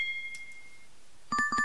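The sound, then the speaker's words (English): A glass is struck, leaving a clear ringing tone that fades, then a quick run of four or five bright pings follows, each ringing briefly. No one speaks. “Sound is pinging a glass.”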